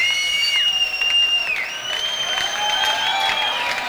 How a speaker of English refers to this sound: And the crowd's into it. They're going nuts. Crowd's having a great time tonight. Band's really in form this evening.